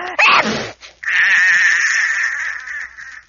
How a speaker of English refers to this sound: Then he tried rolling it up like a ribbon. But that made him sneeze, and